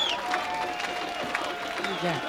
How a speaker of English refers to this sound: The crowd's going crazy. I don't think they're going to let him go.